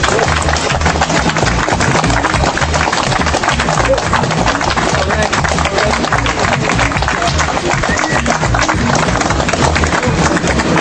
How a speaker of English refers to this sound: I hope that applause is for yourself and not for me, for all that you've done.